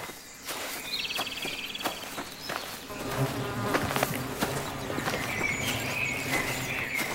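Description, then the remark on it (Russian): Birds sing in short trilling bursts outdoors on a sunny day amid a steady insect-like buzz, with soft knocks and a low rumble joining partway through. No one speaks. “Солнышко светит, птички поют.”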